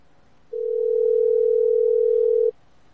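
A telephone ringing tone from an outgoing call sounds once: a steady, unbroken electronic hum lasting about two seconds, loud and clear with nothing else around it and no voices.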